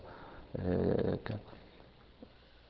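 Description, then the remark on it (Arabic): A man's voice imitates a dog panting, illustrating panting as fast inhaling and exhaling: a short run of quick, rough breaths, then a brief final huff before it goes quiet. “قال كالكلب في لهفه في حالتيه، إن حملت عليه وإن تركته وهو يلهث في الحالتين.”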